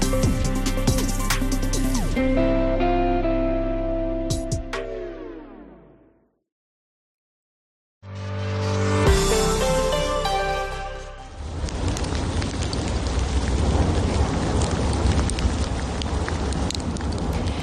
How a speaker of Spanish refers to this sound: Esto que escuchas no es lluvia, ¿no? Es la ceniza del volcán de La Palma. Increíble, ¿verdad? Además, con el sonido de fondo del propio volcán parece una gran tormenta.